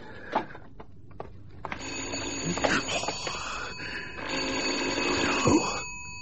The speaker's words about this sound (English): I won't answer it. I won't. It'll be the same voice. And it'll ring again. And he'll tell me things. Maybe he'll think I'm not in. I'll take it off the hook.